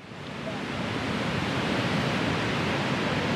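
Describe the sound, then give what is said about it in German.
Steady, broad rushing of surf washing onto Muizenberg Beach, southeast of Cape Town, South Africa, on a sunny, warm winter day, swelling slightly in the first half second and then holding a continuous, fairly loud roar with no voices. “Der Strand kilometerlang, das Wasser blau, die Wellen ideal.”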